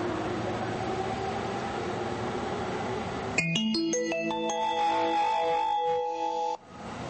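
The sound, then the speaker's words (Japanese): A steady rumbling railway platform din at a Japanese station gives way to a loud, bright electronic chime melody announcing a rapid train bound for Tsuchiura arriving at platform 1, a 15-car train with three doors per car, ringing for a few seconds before cutting off. “まもなく1番線に快速土浦行きが参ります。危ないですから黄色い線までお下がりください。”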